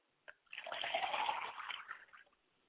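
water poured

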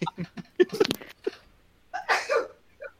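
sneeze

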